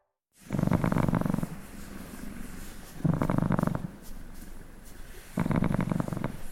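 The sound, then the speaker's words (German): A grey tabby cat named Pepe purring steadily, with low rumbling bursts that swell roughly every two to three seconds and softer purring between them, with no talking. “Ich liebe es, wenn Pepe seinen Motor anschmeißt. Für mich ist das neben Vogelzwitschern der schönste tierische Laut.”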